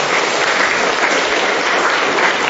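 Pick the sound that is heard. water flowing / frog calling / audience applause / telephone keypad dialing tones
audience applause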